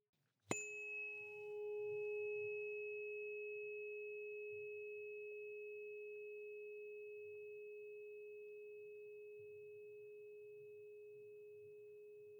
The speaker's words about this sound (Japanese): 1つ目、この音はストレスを和らげてくれる周波数。この音が気持ちいいと感じたならこの音叉を選んでくださいね。